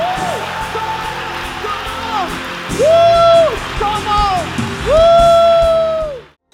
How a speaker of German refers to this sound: Und jetzt geben wir Gott den größten Applaus, den es überhaupt gibt. Dieser Gott, der treu ist.